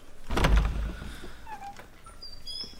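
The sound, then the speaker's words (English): A door is pulled open with a single heavy clunk, followed by a few faint squeaks and thin chirps fading. No one speaks. “Open the door.”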